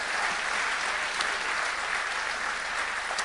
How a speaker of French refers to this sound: Est-ce que vous le croyez? Que tous ceux qui le croient applaudissent le roi des rois alors.